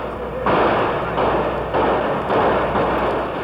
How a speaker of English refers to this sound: The streets of Chicago's West Side rang to the rattle of gunfire as Negroes began rioting Tuesday night when police had tried to shut off fire hydrants.